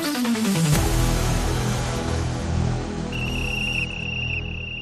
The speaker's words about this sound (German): Wenn die Pfeife ertönt, sind wir zurück.